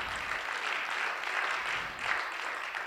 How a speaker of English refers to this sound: Why don't we give him another round of applause?